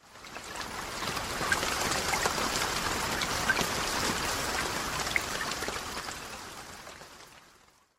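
Steady rain falls continuously, a dense hiss of drops with occasional brighter splatters, moderately loud, fading in at the start and out at the end, with no voices.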